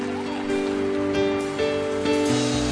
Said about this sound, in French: Est-ce que vous aimez cette vision pour l'année 2007, tout le monde ensemble? Est-ce qu'on peut l'applaudir, cette vision, ensemble?